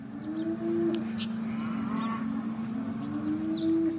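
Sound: cattle mooing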